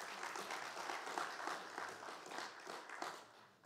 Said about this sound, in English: Please give our national ministry leader a round of applause for welcome.